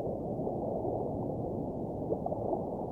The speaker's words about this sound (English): Now I dive in. Under the water surface.